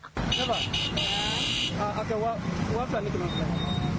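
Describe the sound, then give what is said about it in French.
Busy street traffic near the Kwame Nkrumah monument in Amdalaï Assei, with engines of motorbikes and cars rumbling, a sustained horn honk near the start, and a voice speaking over the steady roadway noise. “Pendant que des motos et voitures faufilent aux alentours du monument Kwame Nkrumah à Amdalaï Assei, juste à proximité, les vendeurs et les acheteurs marchandent les poulets.”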